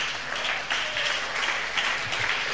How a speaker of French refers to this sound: Oui, je crois qu'on veut applaudir le Seigneur.